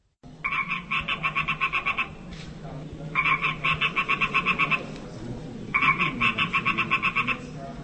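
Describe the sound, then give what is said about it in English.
Frog croaks from the Blue Frog Society, an installation piece by Barbara Holub in the Future of the Future exhibition at Prague's Dock Center for Contemporary Art: three long, rapid pulsing trills, each lasting a couple of seconds with short pauses between, loud over a low background murmur. “Sound there from the Blue Frog Society, an installation piece by Barbara Holub that is featured in the Future of the Future exhibition that opened in Prague's Dock Center for Contemporary Art on July 29th.”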